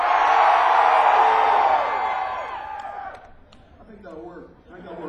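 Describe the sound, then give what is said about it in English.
A large audience screams out loud when asked to by a performer, a dense, sustained roar for about three seconds, then the noise drops away and a single voice starts talking. “I want you to scream like your damn hair is on fire. Scream out loud!”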